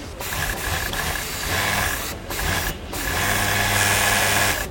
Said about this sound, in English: Push this pink fabric under the needle of a sewing machine in order to put together the V-neck women's t-shirt.